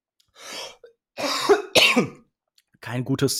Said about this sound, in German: Keine gute Idee, direkt nach dem Aussprechen von dem Wort Tod dann anfangen zu husten und so.